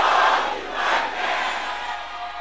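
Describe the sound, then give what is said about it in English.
An audience at a deliverance service shouts loudly in unison, a dense, sustained roar of many voices that swells in a few surges over a couple of seconds, with no single voice standing out. “Can I hear you shout this loud and clear?”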